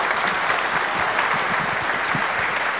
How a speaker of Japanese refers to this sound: 3人の皆さんに大きな拍手をいただきたいと思います。どうもありがとうございました。